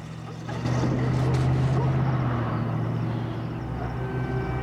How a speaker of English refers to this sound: he races outside after the sound of an engine firing. Daphne drives off in the other car.